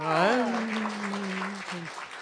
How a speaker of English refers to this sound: I have to admit, I look forward to hearing that round of applause. You know, it really makes me very warm. You know, it's very warm and welcoming.